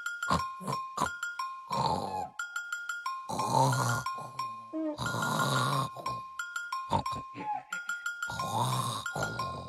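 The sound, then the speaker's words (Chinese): Loud, exaggerated snoring, most likely a voice imitating it, as a fat little pig character pretends to be asleep, comes in several long rasping breaths with a few short snorts at the start, over a steady tonal musical background. “说完，胖小猪害怕斑点龙再找他干活，赶快装作睡着的样子，大声地打起了呼噜。”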